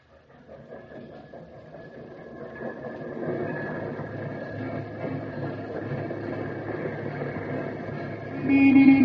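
Rail noise of a train station: a low, steady rumble of train cars swells gradually, and a sustained train horn sounds near the end. No one speaks.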